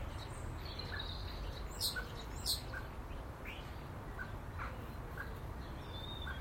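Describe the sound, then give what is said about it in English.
A male blackbird sitting atop a fence gives sharp, clipped chuck calls, a few louder bursts among scattered softer notes, over a steady low background rumble. No one speaks. “Mr. Blackbird sits atop the fence, and you can just hear him chucking.”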